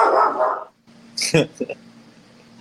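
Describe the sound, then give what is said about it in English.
A dog lets out a single sharp bark, followed by a couple of short, quieter yips. A brief stretch of voice comes just before. “Good dog.”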